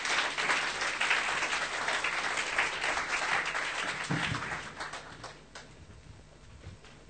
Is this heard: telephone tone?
no